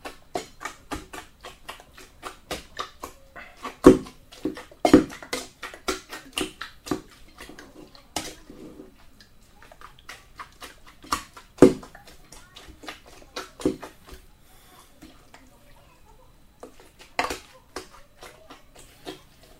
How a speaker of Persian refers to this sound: خب من یه کاری کردم، چون گوشکوب نداریم اینجا، من یه شیشه رو تمیز شستم و پر آب کردم که سنگین بشه، میکوبم باش اینو.